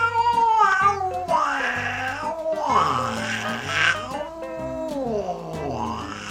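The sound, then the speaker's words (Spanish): A neighbor's cat that has come down into a patio yowls and caterwauls in long, wavering, rising-and-falling cries, loud, continuing for several seconds with no one talking. “Un ruido me despertó de sopetón.”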